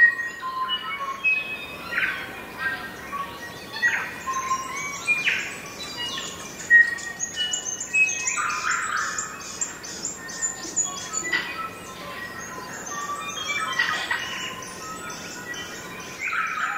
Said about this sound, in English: No doubt Joseph Banks was among the first Europeans to describe the song of the bellbird, which is found throughout much of New Zealand. The Maori have more than 25 names for this vocal creature.